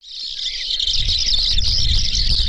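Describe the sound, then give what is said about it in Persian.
A dense chorus of wild birds, which migrate in the cold winter season to Kunduz province, Afghanistan, chirping continuously, a bright high-pitched chatter of many calls at once, with a low rumbling background underneath and no voices. “پرندگانی که در فصل سرد زمستان به کندوز و ولایت‌های همجوار این ولایت کوچ می‌کنند”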